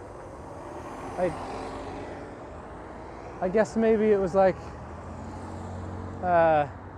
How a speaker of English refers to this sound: Why is this bus going so slow? Like, what?